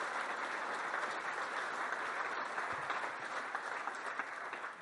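An audience claps steadily for about five seconds, a dense, even wash of many hands at constant loudness that tapers slightly at the end, with no voices standing out.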